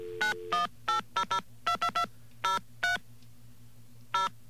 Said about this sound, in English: And we're going to call the number for AT&T.